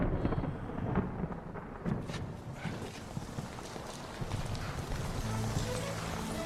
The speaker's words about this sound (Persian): ما باید از زیر بارون بریم.